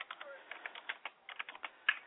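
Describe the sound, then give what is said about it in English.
Rapid, uneven clicking of keys on a computer keyboard, a steady stream of short taps with brief pauses, heard on its own, as a caller types during a phone call to GQ Palace Radio. “I hear somebody typing, but yes.”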